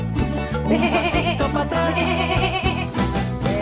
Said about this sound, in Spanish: Hola, Ramoncita, ¿cómo estás? Ramoncita, saben ustedes, ¿no? Para quienes se suman en este día, es nuestra oveja.